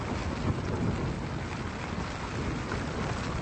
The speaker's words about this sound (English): Well, it's now after 2 o'clock on October 4th, and the tent is caved in due to the storm.